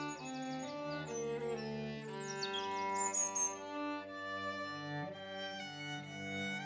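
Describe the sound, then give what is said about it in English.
Birds sing and chirp in quick, bright bursts, busiest in the first few seconds, layered over a steady, sustained tonal background at moderate volume, on a sunny April morning with an east wind, by a bench at a twin oak, while the birds are busy mating and nesting. “The birds are busy mating and nesting, obeying the same instincts that drive us to have and raise children.”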